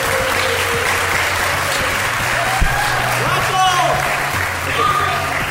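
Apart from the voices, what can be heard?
audience applause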